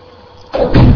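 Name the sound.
door being shut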